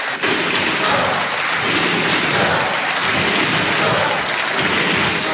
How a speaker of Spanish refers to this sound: Dimisión se lo pedían los senadores del Partido Popular, que tiene mayoría absoluta en la Cámara Alta, entre aplausos que también se escuchaban de fondo de sus compañeros del Partido Socialista.